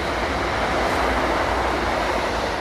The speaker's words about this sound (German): Oh, hier fährt gerade ein Zug vorbei.